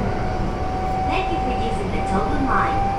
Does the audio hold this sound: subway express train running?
yes